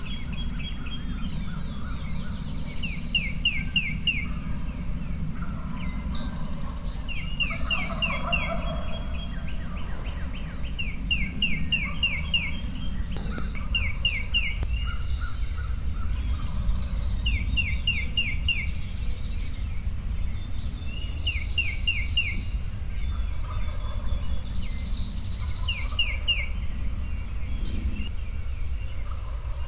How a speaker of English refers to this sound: And then there's another very boisterous gobbler down in Hoot and Holler. They all seem to be within, the majority of them, all within 100 yards of me.